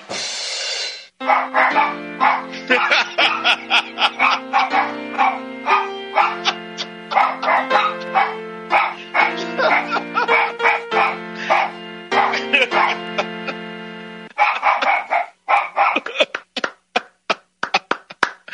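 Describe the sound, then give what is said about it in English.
Dog barks chopped and pitched into a melody, short tonal yaps stacked in a steady rhythm over a sustained musical backing, loud and continuous, ending in a run of rapid staccato barks. “How do you take a dog's bark and make it into a tune?”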